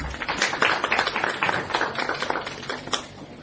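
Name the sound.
audience applauding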